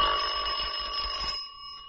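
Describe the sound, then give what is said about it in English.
A doorbell rings in one sustained, bright metallic tone with steady high overtones, then cuts off and leaves a faint fading hum. No one speaks. “Oh, there's someone at the door.”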